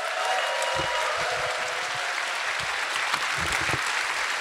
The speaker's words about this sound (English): Clap your hands for software